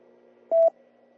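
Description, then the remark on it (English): A single short electronic beep, a steady mid-pitched tone lasting about a fifth of a second, stands out clearly over a faint low hum with no one speaking. “let me wait for the beep.”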